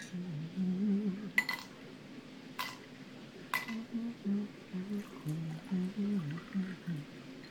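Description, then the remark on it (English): Three sharp glassy clinks of glasses while cocktails are being made ring out in the first half, spaced about a second apart, over a steady low murmur of indistinct voices that continues throughout. “I'll leave you to it and go fix those drinks, okay?”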